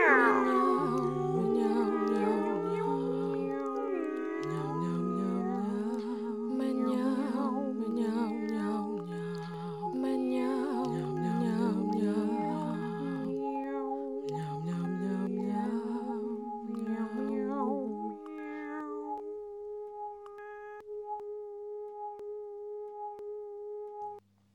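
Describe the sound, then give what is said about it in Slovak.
A person imitates a cat, giving a long run of fairly loud, drawn-out meows with sliding pitch, one after another for about twenty seconds, then trailing off into a steady held tone. “A ja som mala chuť si zamňaukať. Tak, tu je kúsok mňaukania.”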